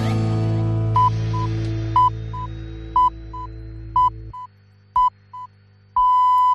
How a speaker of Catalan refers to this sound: senyals horàries, arribem a la una